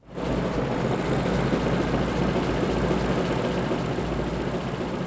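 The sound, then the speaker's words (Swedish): The world's first and only straight sixteen-cylinder engine runs steadily at a loud, even idle in a garage in Kil, Sweden, a dense low rumble with a constant droning texture that starts abruptly and holds without change, no voices present. “Ja, så låter världens första och enda raka 16-cylindriga motor.”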